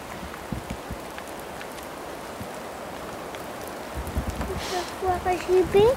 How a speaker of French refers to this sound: Attends, il pleut.